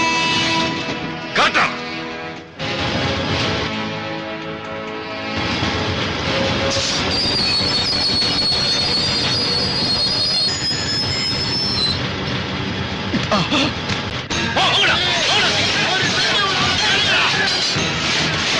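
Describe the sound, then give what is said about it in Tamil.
A train's wheels squeal loudly against the rails as it brakes to a halt, with high metallic screeching sustained over heavy rumbling and clanking of the cars. “Train ஒரு inch கூட நகராது, இறங்குடா கீழே.”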